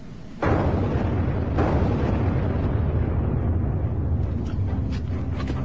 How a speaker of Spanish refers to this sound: Estamos recreando la explosión que casi mata a Hitler